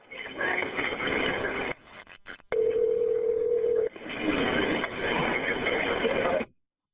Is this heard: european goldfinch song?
no